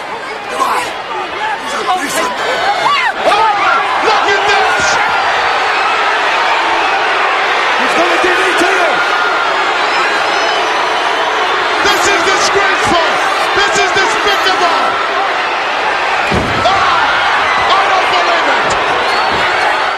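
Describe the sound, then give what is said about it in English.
A large crowd chatters and roars throughout, then near the end a man grabs a woman by the hair and delivers a sharp slap with a thudding foot stomp, and the crowd reacts loudly. “Jake grabs her by the hair and delivers a devastating slap, which gets monster heat”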